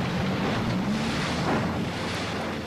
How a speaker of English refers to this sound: The barrier blocked water and effectively split Little Rock Lake into two basins. To simulate the acid rain that fell over parts of the U.S., research boats like this one sprayed acid into one of the basins.